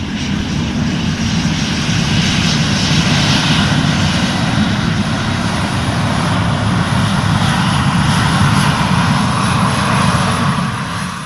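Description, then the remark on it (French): Steady, loud roar of aircraft engines as planes move incessantly on the runways of Roissy-Charles de Gaulle airport in France, a broad continuous rumble with a whining upper hiss that holds throughout without any voices. “Sur les pistes, le balai incessant des avions que les passagers pourront sans doute bientôt rejoindre dans ces véhicules d'un nouveau genre.”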